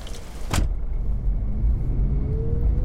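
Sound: car driving on road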